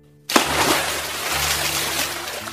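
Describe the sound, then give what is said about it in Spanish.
A sudden splash as something plunges into water, followed by continuous churning and sloshing that fills the rest of the moment, fairly loud. “Ahora sí, al agua, a la una. No hay tiempo, no me mire así. Uno, dos y tres.”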